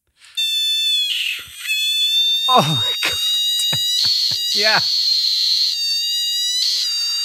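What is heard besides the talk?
giant screaming frog scream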